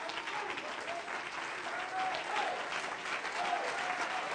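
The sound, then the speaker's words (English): An audience stands and claps their hands unto the Lord during a church service, a dense, steady wash of applause for several seconds, with faint voices rising now and then beneath the clapping. “My God, stand up and clap your hands unto the Lord.”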